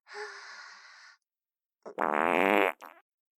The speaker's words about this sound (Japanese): 失礼。今度は右から屁こいちゃいました。いかがですか？私のおならで耳たぶブルブル震えちゃいましたね。おならの振動感じたでしょ？